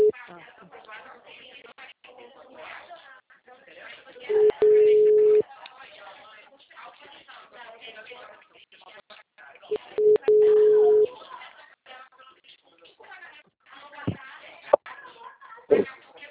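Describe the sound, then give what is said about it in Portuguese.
A telephone line tone after a dropped call with a consultation office: two loud, steady, mid-pitched beeps about a second long, several seconds apart, among muffled, band-limited phone-line voices and noise. “A gente estava falando pelo telefone, a ligação caiu.”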